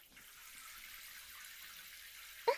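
A shower runs steadily, a soft continuous hiss of spraying water with no voices, ending with a brief light knock near the end.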